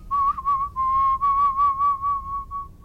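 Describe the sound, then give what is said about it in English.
A college student whistles a tune, recorded a few years ago, a clear, bright tone broken into quick rhythmic notes with small shifts in pitch, heard alone against faint low background noise. “Wasn't that whistling so impressive?”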